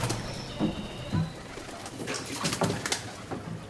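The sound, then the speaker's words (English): Pigeons coo and birds call repeatedly along a canal in Venice during a gondola tour, with a steady ambient hum and occasional clatter beneath. “There are some channels you have a lot of birds singing.”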